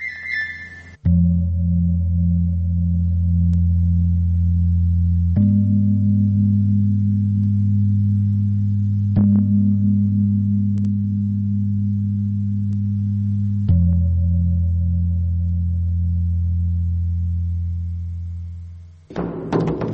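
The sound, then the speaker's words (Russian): Deep, humming tones of Indonesian gongs, with a Chinese drum and the detuned open strings of viols and violins hanging in a display case, are struck in turn in a hall of a musical instrument collection. Each new hit swells into a long, steady resonance. Fairly loud, with no voices. “Индонезийские гонги, китайский барабан и открытые, пусть и расстроенные, струны, висящих в витрине виол и скрипок.”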